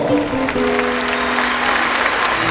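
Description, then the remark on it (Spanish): A crowd applauds steadily, a dense wash of clapping hands that stays loud and even throughout, with a faint sustained tone lingering underneath. “También lo vamos a escuchar y lo vamos a aplaudir con cariño”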